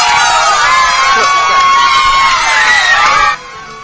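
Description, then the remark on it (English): A slightly tweaked cheering-crowd sound effect: a crowd cheers and whoops loudly in a steady, dense roar of many voices with shrill rising shouts, then cuts off abruptly near the end. “Little cheering sound effect?”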